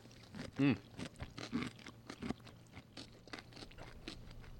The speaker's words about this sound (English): Big bite on this last one. Wait, hold on. Let me make sure you guys get the crunch.